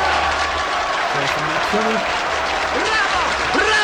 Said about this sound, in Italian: 92 minuti di applausi.